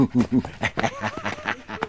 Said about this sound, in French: Et alors le chien? Et alors le chien? Et oui, le chien, le chien.